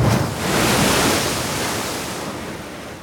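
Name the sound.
ocean waves at night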